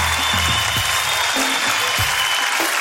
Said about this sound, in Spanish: Lo están haciendo muy bien, de verdad. Y que siga el aplauso, que siga,